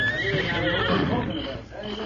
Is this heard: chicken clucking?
no